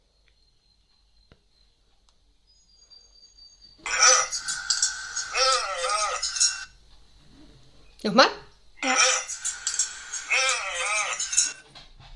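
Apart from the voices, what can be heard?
dog sounds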